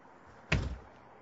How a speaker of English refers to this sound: Was that a door slamming?